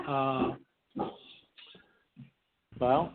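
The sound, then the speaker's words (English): A dog named Olivia whimpers and whines in two drawn-out, high-pitched cries, with a few short, yipping barks in between, wanting to bark at someone walking by with a dog; fairly loud with nobody talking over it. “My wife's trying to quiet her because I guess someone's walking by with a dog, so she wants to bark at the dog.”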